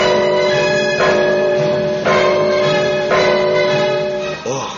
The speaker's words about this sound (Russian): воскликнул стражник и кинулся к набатному колоколу.